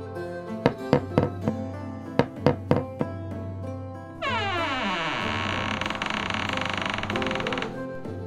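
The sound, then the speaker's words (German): Several sharp, loud knocks on the door of a tower by the Kaiserburg at night come in two quick bursts, three raps and then four, before a long, steady droning tone takes over and holds for a few seconds. “Sie sahen noch Licht. Also klopften sie an.”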